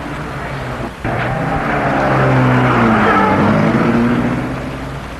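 A car engine starts up after a brief pause, revs and pulls away, its steady drone shifting in pitch and easing off slightly toward the end. No one speaks.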